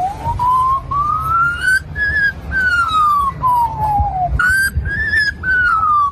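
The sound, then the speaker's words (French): A magpie in Newcastle, north of Sydney, imitates the fire engine sirens it has heard so often, a clear whistled wail that slowly rises and falls several times, loud over a low rumbling background. “On y voit une pie. Et écoutez, elle a tellement entendu le bruit des sirènes de pompiers, bien qu'elle l'a imprimée.”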